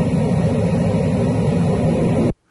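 airplane in flight

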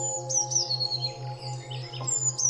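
blue tit chirping

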